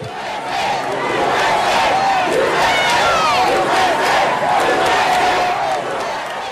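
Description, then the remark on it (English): A large crowd at the South Carolina Capitol grounds cheers and shouts loudly and continuously as the flag is removed, many voices blending into a sustained roar with rising yells and whoops throughout. “I just want to play a short clip of the reaction from the from the crowd as the flag came down.”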